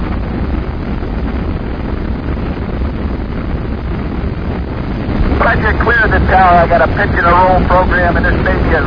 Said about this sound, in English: ignition sequence start. 6, 5, 4, 3, 2, 1, 0. All engines running, commit liftoff. We have liftoff, 11:22 a.m. Eastern Standard Time.